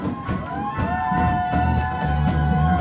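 A large crowd at a live band concert cheers loudly and continuously, with high whoops and shouts rising above a dense wall of noise.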